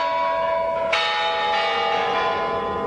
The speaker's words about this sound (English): And so it is Putin who delivers the traditional New Year greeting to the Russian people before the Kremlin bells usher in the new millennium.